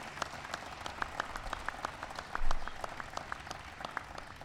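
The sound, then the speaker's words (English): A crowd applauds Brad Keselowski for winning his first NASCAR Sprint Cup Championship, with a steady patter of many hands clapping, sharp crisp claps repeating rapidly over a dense background of applause, holding at a moderate level throughout. “And today we are here to congratulate Brad Keselowski for winning his first NASCAR Sprint Cup Championship, so give him a big round of applause.”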